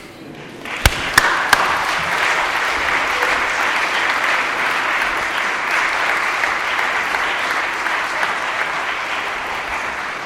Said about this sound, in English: We have an amazing group of people who gives so much time. And I think right now, while I stop crying, could you give them a big applause?